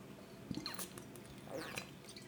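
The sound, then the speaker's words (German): Quiet wet mouth sounds of someone sipping and swallowing water, with soft slurps and gulps spread across a couple of seconds and no talking. “Ihr hört richtig. Ich trinke gerade Wasser”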